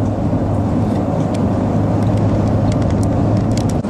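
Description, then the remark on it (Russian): Steady low engine rumble and road noise from a car driving along a road past fields and orchards, with a constant hum and faint ticking, loud and continuous throughout with no talking. “Так вот едем, а со всех сторон богато.”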